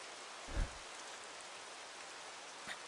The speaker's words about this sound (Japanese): あいにくの雨だね。君びしょ濡れじゃん。